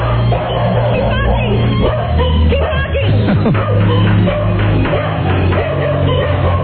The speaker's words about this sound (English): We have a Schnauzer. A Schnauzer. Good barking dog.